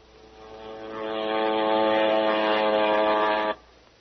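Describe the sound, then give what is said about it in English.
A propeller airplane drones overhead, its steady humming engine swelling louder over about a second, holding at a loud level, then cutting off abruptly. No one speaks. “Send it over by airplane.”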